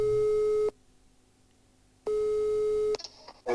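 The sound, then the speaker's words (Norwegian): An outgoing call's ringing tone from Studentradioen i Bergen: two steady, loud electronic tones, each under a second long, separated by a pause of silence, followed by a little faint line noise. “Vi skal ringe litt fler.”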